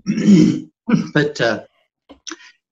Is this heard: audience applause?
no